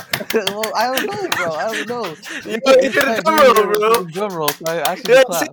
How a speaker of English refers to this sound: I don't know, bro. I'm clapping.